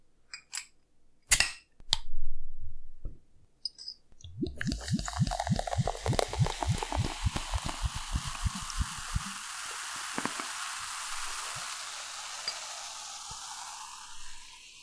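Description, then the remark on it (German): A small glass bottle of drink is opened: a few sharp clicks and a short burst as the cap comes off, then a run of rapid glugging pulses that settles into a long, steady fizz. “Und das habe ich letztens halt in der Glasflasche gesehen. Dachte mir, klein, handlich, Glas, geil, mitnehmen. Ja. Passt zum Thema. Gut. Okay, dann machen wir es mal auf.”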